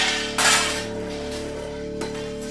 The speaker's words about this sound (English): Suddenly, a single gunshot rings out, fatally silencing the disembodied voice to my left and sending it to the floor, dragging along with it surgical equipment and utensils, crashing about.